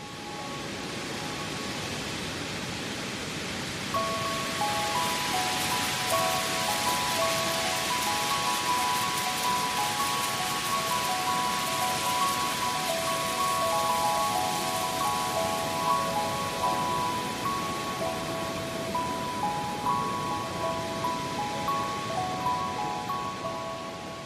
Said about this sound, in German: Falls du dir jetzt irgendwie gedacht hast, Mensch, das kommt mir doch irgendwie bekannt vor, dieses Windspiel und die Windgeräusche